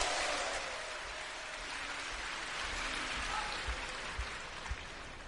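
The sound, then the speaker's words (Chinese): Dense, steady applause from an audience at a xiangsheng crosstalk performance by Guo Degang and Yu Qian fills the whole stretch, a continuous hiss of many hands clapping at an even loudness, with a few sharper low thumps near the end and no voices. “谢谢，谢谢大家给我一个人的掌声。”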